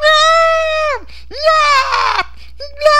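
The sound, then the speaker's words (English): A toddler boy in a diaper, 2 or maybe 3 years old, lets out high-pitched shrieks: a long, steady wail that sags at the end, then a strained, rising squeal, followed by short yappy bursts. No one speaks. “Just making these little yapping, mealy noises, mousy, mealy... yappings.”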